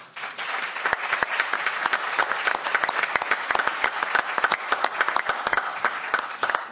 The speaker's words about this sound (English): I just applauded for myself. I'm so excited.